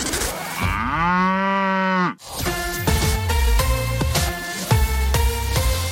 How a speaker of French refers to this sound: quand vous entendez une vache meugler sur Radio Mont-Blanc